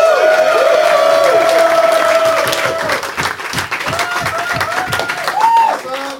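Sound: audience applause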